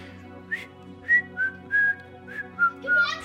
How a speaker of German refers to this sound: Pfeifen. Pfeifen? Okay, da muss ich das passende Lied mir raussuchen.